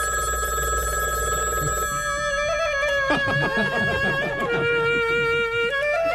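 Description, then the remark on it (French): A telephone rings in Dominique Strauss-Kahn's Moroccan riad as Jean-Michel Apathy of RTL tries to reach him by phone, a bright electronic warble, its tones pulsing in a quick repeating pattern for several seconds, clear and fairly loud with no one speaking. “Alors que Dominique Strauss-Kahn doit rentrer demain pour être confronté à Tristan Bannon, Jean-Michel Apathy a tenté de le joindre par téléphone dans son riad marocain.”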